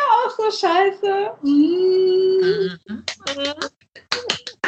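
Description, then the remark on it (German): Excited, drawn-out vocal sounds give way to a quick flurry of sharp hand claps in two short bursts, loud and crisp, with voices mixed in between. “Ich höre dich schon wieder klatschen.”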